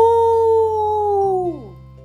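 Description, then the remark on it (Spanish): A person imitates a wolf howl, voicing the vowel A followed by O, in one long, steady vocal note that slides downward and fades at the end. The voice is loud, with nothing else around it. “Con un cerdo, el lobo deberá aullar con la A seguida de la O. ¡Aó!”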